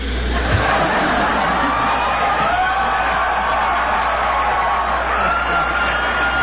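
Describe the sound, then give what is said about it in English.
A large crowd roars and cheers continuously, a dense, loud wash of voices with applause mixed in, sustained at steady volume throughout with occasional shouts rising above. “Is that clapping? That's applause.”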